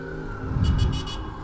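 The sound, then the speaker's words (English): Steady, moderate downtown New York City traffic with many taxicabs rumbles just outside Madison Square Garden, a low engine drone swelling as a vehicle accelerates past, with a few brief bursts of higher noise from the road. “Plenty of vehicular traffic here.”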